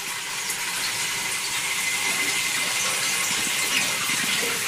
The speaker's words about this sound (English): while it's running, she can see the flame and hear the oil running, almost as if they had a faucet running